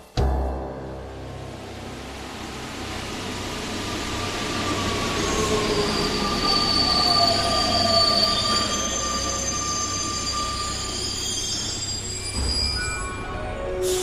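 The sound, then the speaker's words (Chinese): A Paris metro train on line 12 at Rue de Chauffran station rumbles steadily past, its wheels letting out a high, sustained metallic squeal that rises and wavers over the low, continuous rolling noise, loud. “这在 Rue de Chauffran 地铁站好了这是十二线”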